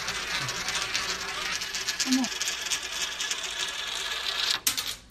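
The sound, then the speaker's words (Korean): A coin put into a gravity well funnel, a device on display demonstrating gravity, rolls around it with a continuous whirring, rattling hum that carries on steadily before ending in a sharp clatter. A brief voice murmurs in the background. “자, 동전을 넣겠습니다.”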